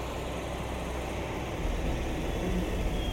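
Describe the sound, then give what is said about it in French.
A steady, broad rumble of heavy engines that deepens and grows slightly louder partway through as trucks and construction machines arrive in a meadow where a new shopping centre is to be built, with no voices. “Papa, des camions et des engins arrivent dans la prairie.”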